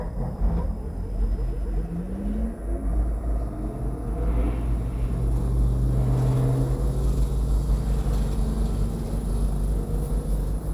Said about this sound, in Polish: Klimatyzacja się uruchomiła. No i póki co urządzenie działa bardzo cicho. Teraz się obudziło. Nie wiem, czy słychać.